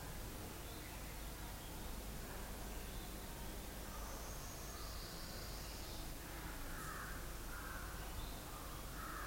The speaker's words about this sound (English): Another kind of bird song.